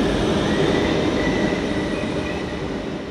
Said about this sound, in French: Alors, j'attends que le RER passe parce que là... Merci.